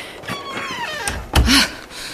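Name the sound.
door being shut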